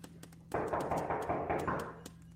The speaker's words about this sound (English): Could you please just... could you just knock for me one time, please? Just knock the door.